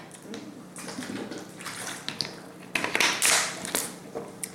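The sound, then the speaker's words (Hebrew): Someone takes a sip of water: a few seconds of wet sloshing and slurping noises with occasional sharp clicks, fairly quiet and with no talking. “תכף אני אקח שוק מים.”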